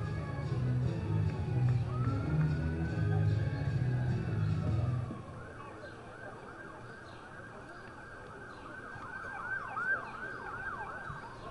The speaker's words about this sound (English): We are located directly downtown here at Classic Auto Group Park. Ambulance just went speeding by.